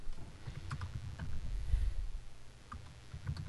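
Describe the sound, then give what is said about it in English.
Someone types an email on a computer keyboard, producing a quick, irregular patter of soft clacks over a low background rumble, with no one speaking. “What are you typing? Right here, banging.”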